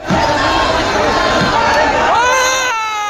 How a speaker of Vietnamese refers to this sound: Dinh thự từng uy nghiêm này hiện đã bị đám đông giận dữ phá dỡ.